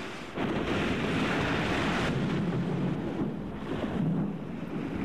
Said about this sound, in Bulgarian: Вълните заливат палубата. Да се завържем с въжета към мачтите. Такива вълни никога не съм виждал.